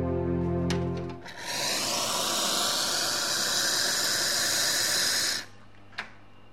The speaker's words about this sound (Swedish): du står bakom disken här och gör just nu i ordning te, en kopp te som jag ska få smaka på. Ja, precis. Det gäller att ha rätt temperatur, så jag pös ut lite vatten. Nu får du stå och svalna lite, så du ska få grönt te allra först.